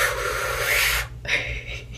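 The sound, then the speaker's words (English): Airy breaths with a rasping edge from a person doing a light breathing exercise: one long draw of about a second, a brief pause, then a steady exhale. The pace is slow and controlled, with no talking. “I just want to start with some light breathing.”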